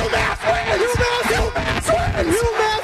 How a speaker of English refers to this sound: UMass wins the game. 61-59. This crowd is going nuts. They rush the floor. The Minutemen have won the game. The Minutemen have beat the sixth-ranked team in the nation.